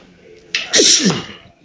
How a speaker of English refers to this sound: Wow. That's a heck of a sneeze. I'm powerful. Are you all right, little guy? A powerful sneeze for a powerful man.